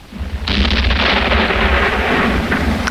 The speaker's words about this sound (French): Cela ressemble plus à une canonnade. Canonnade ou tonnerre, pour toi, c'est la même chose.